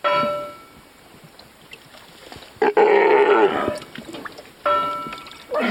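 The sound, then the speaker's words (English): Several loud, rough roars and growling bellows from Steller sea lions lying atop a red and white buoy marking the northern entrance to the Wrangell Narrows and Petersburg's waterfront in Alaska, overlapping in bursts with brief pauses between, outdoors with faint water and wind in the background. “Stellar sea lions like these make a habit of lazing atop the red and white buoys marking the northern entrance to the Wrangell Narrows and Petersburg's waterfront.”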